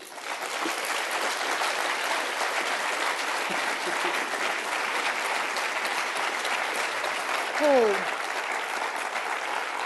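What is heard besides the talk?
long round of applause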